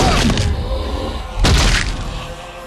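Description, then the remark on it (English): Two heavy, dull impacts of a man smashing his head against glass, about a second apart, each a broad crunching thud with a rattling tail, over a steady low rumble. “He smashes his head against it again.”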